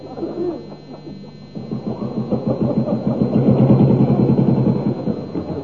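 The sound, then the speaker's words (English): An AA patrolman's motorbike engine putters closer, its rapid throbbing growing steadily louder before holding steady, with a low steady hum running underneath. “There's an AA patrolman coming along. Look, on the motorbike.”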